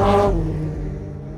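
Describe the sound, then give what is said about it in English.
Racing cars of Mike Hawthorne and Fangio roar past on the track at Le Mans, thundering towards the home straight, a loud engine burst peaking early and then fading into a lower rumble as they move away. “As they thunder towards the home straight, Hawthorne moves to the right, committing to”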